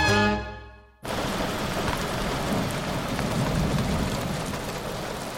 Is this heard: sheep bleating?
no